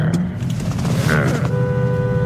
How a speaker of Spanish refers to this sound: Seguro que si tú también vas en el coche, oyente, escuchas así el motor. Mira cómo ruge.